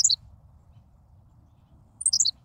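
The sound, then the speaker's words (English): A Henslow's sparrow gives its tiny, hiccup-like song twice: brief, high, buzzy chirps, each over in a fraction of a second, separated by about two seconds of low, quiet background rumble. “Amazingly, a Henslow's sparrow values brevity even more.”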